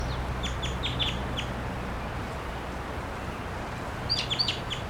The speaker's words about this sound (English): I got a wild crossbill here at 9:28 a.m. Stop. Song flight to the wild bird.